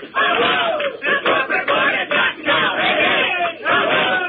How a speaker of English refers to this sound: If you can't tell, we're all shouting, hey, hey, ho, ho, the corporate board has got to go. There's about three police outside here right now, and probably about 30 listeners.